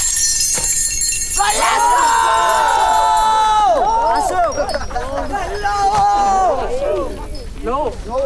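A group of boys playing football, their overlapping shouts and calls rising and falling loudly and continuously nearby, with a busy open-air bustle underneath.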